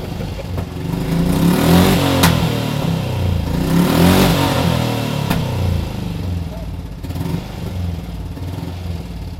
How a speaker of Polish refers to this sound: Jest to motocykl, który ma być zwykłym motocyklem, w pełni użytkowym, w pełni jeżdżącym, nie tylko do postawienia i do odpalenia.